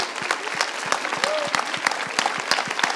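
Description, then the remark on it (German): A crowd at the HTWK Buchmesse-Slam claps steadily and loudly for the second-place finisher, a dense patter of many hands with sharper individual claps popping out, filling the whole stretch without pause. “Und damit haben wir eine fantastische Zweitplatzierte applaudiert für den zweiten Platz”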